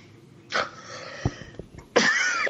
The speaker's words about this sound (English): After you've coughed.